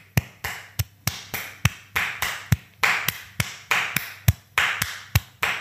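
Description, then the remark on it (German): A steady series of sharp hand claps in a lilting triple-time Viennese waltz pattern, fairly loud, with no voices, about a dozen and a half claps over several seconds. “Dann klatschen wir mal einen Wiener Tanzer. Wiener Walzer.”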